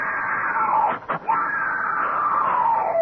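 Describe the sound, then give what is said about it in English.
A woman just awakened in a harem screams loudly, a sustained high-pitched cry that breaks off briefly for a breath, then resumes and slowly sinks in pitch. “She's awake. Don't let her scream.”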